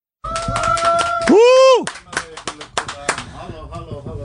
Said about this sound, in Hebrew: בואו נקבל בתשואות את האיש והאגדה, אחד הזמרים הגדולים של המוזיקה החסידית מאז ומעולם, פס הקול של המוזיקה, זמר אהוב במיוחד, ואולי אפילו הזמר הכי אהוב על בחורי הישיבה. כפיים למיכאל שטרייכר!